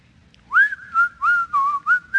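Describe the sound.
Someone whistles a short, bouncy melody while coming in to work on a Monday morning, a quick run of clear, sliding notes in a lively rhythm, with no talking and only faint background hum.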